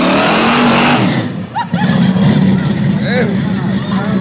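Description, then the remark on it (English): A truck doing a tire burnout: its engine revs hard and holds a loud, steady roar with harsh hissing noise from spinning tires, while voices shout briefly over the din. “It's the worst burnout I've ever seen, but we're idiots.”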